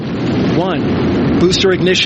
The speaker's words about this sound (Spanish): ignición, y comienza el encendido de los cuatro potentes motores principales. Arde el hidrógeno y el SLS, el cohete operativo más poderoso del mundo, se desprende de sus cordones umbilicales con la plataforma de lanzamiento.